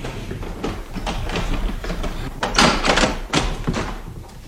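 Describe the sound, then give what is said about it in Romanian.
A door is pulled open, a rough scraping and rattling of wood and hardware that swells to a louder clatter partway through, with no voices. “Deschide ușa”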